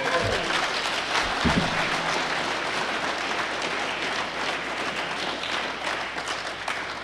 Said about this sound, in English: Another hand of applause for them.